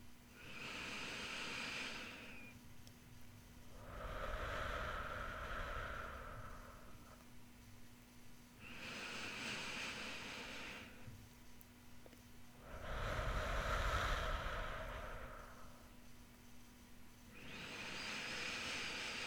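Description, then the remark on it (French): Slow, deep breaths drawn in and let out during a guided meditation session, each airy inhale followed by a softer, lower exhale in a steady unhurried rhythm, with no talking. “Pour les 4 prochaines, je vais respirer et vous pouvez soit vous caler sur ma respiration, soit prendre la vôtre, comme vous préférez.”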